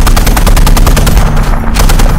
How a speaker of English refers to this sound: Jack's breathing picked up until the sounds of Willie's top turret guns firing off seemed to shock him out of his panic state.